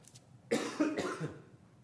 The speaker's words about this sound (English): I do not have water up here, so if I cough again, forgive me.